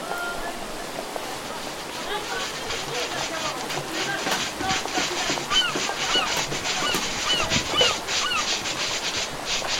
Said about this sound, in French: on va se plonger dans le son qu'on entend là depuis quelques secondes, depuis le début de notre conversation, ce son-là que vous avez recréé donc fin mai, début juin, au Châtelet, Paris, milieu du 18e siècle.